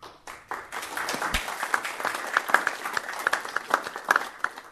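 An audience applauds in thanks for the conservation of a property, many hands clapping in a dense, steady patter that starts abruptly and holds at a moderate level for several seconds, with no talking over it.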